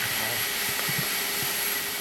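Steady, hissing drone of wood being sawn, probably by a power saw, with a faint constant hum and a few soft low thumps underneath.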